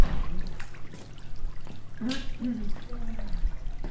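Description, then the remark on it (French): A small stream flowing through the middle of the main street of the village of Saint-Martin-des-Ubies trickles and gurgles steadily, a continuous watery babble with a brief murmur of voices partway through. “C'est dans tout le village qu'il y a ce petit ruisseau qui coule au milieu.”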